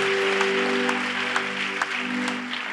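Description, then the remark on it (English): An audience claps for the people who raised their hands to receive Jesus, a steady, dense, continuous wash of applause with a few sharper beats standing out, while a sustained keyboard-like tone hums underneath. “Come on, let's clap one more time.”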